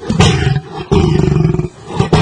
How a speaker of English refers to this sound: So that's the normal sound, but there's the real sound of a cat. This is the real sound. Just slow it down, and this is what they sound like.